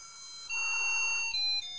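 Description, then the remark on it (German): A thin, single-voice electronic one-tone sound-chip version of a song plays on its own as water is let into the device, looping up to the chorus: a few sustained, pure beeping notes stepping between pitches, steady and fairly loud, like a cheap appliance jingle. “sondern es ist auch noch so eine furchtbare Ein-Ton-Soundchip-Version.”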